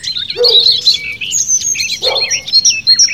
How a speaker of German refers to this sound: Ihr gehört jetzt Zingvögel Kohlmeise, Gartengrasmücke und Rotkehlchen.